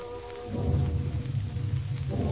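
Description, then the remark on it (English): A rainstorm hisses steadily on a warm, heavy night while low, rolling thunder swells in after a moment and rumbles on continuously, fairly loud, with no voices. “In old Peter Grimm's study, Frederick, closing the windows against the threat of rain, turns to James.”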